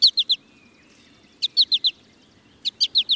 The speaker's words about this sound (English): American goldfinch males sing a bright, bubbly song and nearly always call in flight with a sweet four-syllable.